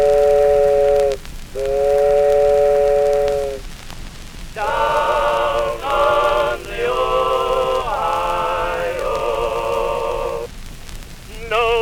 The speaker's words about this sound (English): Way down yonder in the cornfield, there's a steamboat coming around the bend. Don't you hear that whistle blow?